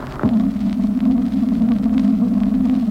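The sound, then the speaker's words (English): A returning radar pulse echo, watched on an oscilloscope screen: a sharp blip near the start over a steady, droning low electronic hum, followed by faint, irregular ticks. No voices. “There's the echo.”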